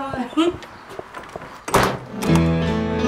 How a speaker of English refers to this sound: So this is Fran Reynolds closing the door at G Marshall House.